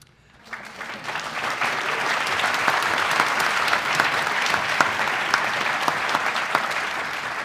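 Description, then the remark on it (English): Steady audience applause at the event The Selfish Gene, 30 Years On swells in after a brief quiet start and holds at an even, dense level, many hands clapping together with crisp scattered claps standing out, and no voices on top. “Take it that applause is for getting through it and trying to stick to the timetable.”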